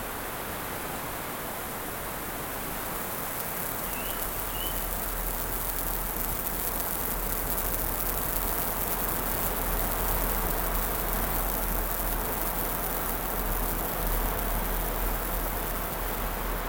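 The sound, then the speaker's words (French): A steady, broad rush of wind turning northwest through forest leaves as bad weather approaches, a full, continuous hiss with gentle swells and no talking. A faint, brief chirp surfaces once early on. “Ça remue comme les vagues dans la mer.”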